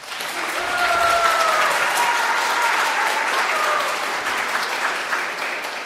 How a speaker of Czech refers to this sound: tak jim prosím zatleskejte.